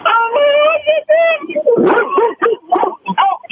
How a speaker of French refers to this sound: Excusez, il y a un chien qui s'en arrive.